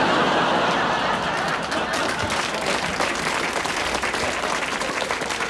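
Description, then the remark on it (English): Sustained applause from a large audience, a dense wash of many hands clapping at steady loudness for several seconds, with a faint murmur of voices mixed in. “You're clapping a cheap arbitrage of labor across the world.”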